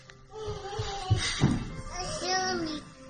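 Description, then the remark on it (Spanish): High-pitched children's voices chatter and call out over one another, with rising and falling yelps and a couple of brief thumps, as several kids play instead of napping during an afternoon siesta, at moderate volume. “Lo que son niños jugando.”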